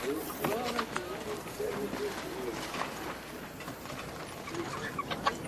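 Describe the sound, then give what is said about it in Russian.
Chickens cluck and chatter in short, scattered bursts as they wander by a small house with a sign reading 'Tea House of the Uryupinsk RPS', mixed with a steady background of outdoor noise and a voice speaking over them. “У домика с вывеской «Чайная Урюпинского РПС» бродят куры.”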